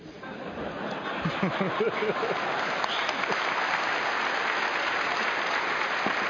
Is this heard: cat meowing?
no